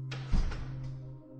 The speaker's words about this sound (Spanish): La puerta del zombi se cierra.